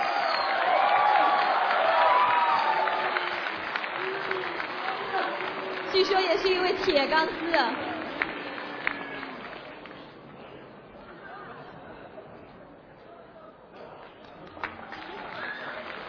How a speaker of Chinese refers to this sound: 掌声欢迎。 有请。特意赶来的。